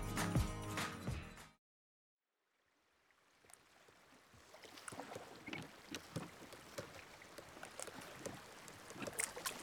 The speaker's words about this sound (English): The grey water of the River Thames laps at the little jetty in the Tower of London. The barge beside it rocks and creaks on the ropes holding it in place.